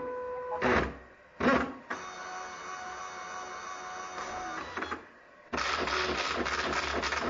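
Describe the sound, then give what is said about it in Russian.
A printer prints a document from Duxbury software: two short mechanical bursts, then a long steady whirring stretch with a tonal hum, a brief pause, and a louder buzzing final pass. No one speaks. “Итак, наш документ готов. Можем печатать.”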